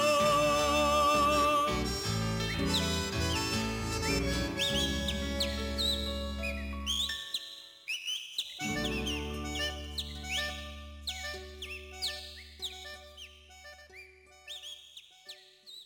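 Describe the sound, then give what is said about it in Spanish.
A person whistles bright, chirping imitations of the birds of Entre Ríos province, with quick trills and sliding notes over steady instrumental music, briefly pausing midway before the warbling resumes. “el entrerriano, que se hizo famoso por la notable imitación que hace con su silbido, chiflidos decimos algunos, de los pájaros de esa provincia de pájaros”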